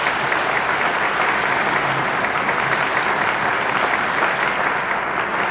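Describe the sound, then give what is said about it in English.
Steady, sustained applause from an audience fills the whole stretch, a dense wash of many hands clapping at an even loudness, with no talking on top. “Would you give them a hand of applause at this time?”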